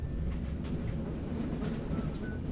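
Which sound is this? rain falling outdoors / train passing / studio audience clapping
train passing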